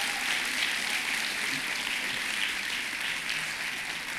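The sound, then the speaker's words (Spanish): A crowd applauds God steadily, with dense, even clapping that holds a constant level from start to finish and no voices standing out. “Si va a aplaudir a Dios, aplaude, pero...”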